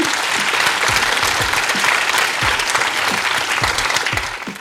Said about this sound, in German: und bitte nochmal um einen großen Applaus und Dankeschön.